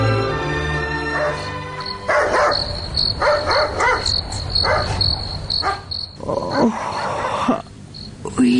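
A dog barks in a run of sharp, repeated bursts in the middle of the night over a steady chorus of chirping crickets, giving a quiet nighttime feel; the barking sounds fairly loud.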